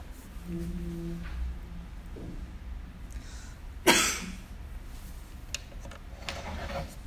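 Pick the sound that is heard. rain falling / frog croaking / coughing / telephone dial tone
coughing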